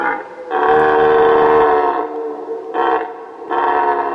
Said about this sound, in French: Alors, pour avoir entendu le brame du cerf en forêt de Compiègne, je peux vous assurer que cette aventure nocturne est vraiment palpitante. Plus de repères, on est suspendu au bruit d'ailes des chauves-souris quand soudain on entend...